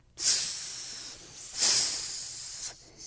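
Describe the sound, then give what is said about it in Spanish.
A voice imitates a snake's hiss with two long, breathy hissing bursts, the first sharp and fading, the second swelling then tapering off, fairly loud with no talking. “¿Y la serpiente cómo iba?”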